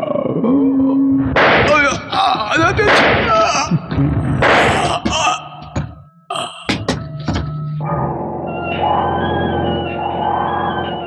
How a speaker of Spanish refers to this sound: Lijala cae fulminado por los disparos del tigre.